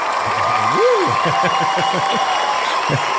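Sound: audience applause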